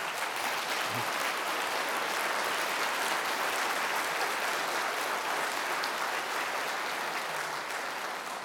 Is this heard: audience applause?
yes